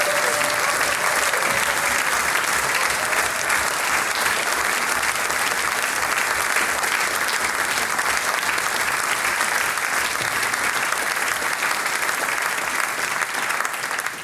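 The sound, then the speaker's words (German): Sustained applause from a large audience for the fiddlers at the close of a music performance event, dense and steady clapping filling the whole stretch at a constant, fairly loud level, with no speech over it. “Und ganz zum Schluss, wie's Dampfel fürs Brot, Applaus für unsere Dampfelgeiger.”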